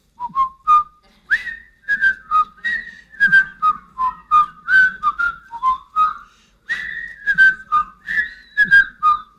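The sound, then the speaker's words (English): A man whistles a bright, bouncy tune, the Mayberry TV theme, a steady stream of clear melodic notes with short gaps between phrases, no talking over it. “I'm going to whistle something to you, and it's like Name That Tune”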